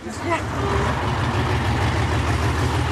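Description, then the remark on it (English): A bus taking a group of travellers into Serbia idles with a steady, low droning rumble that holds at an even level throughout, with faint indistinct voices murmuring in the background. “takes the bus into Serbia, the fourth country on her trail.”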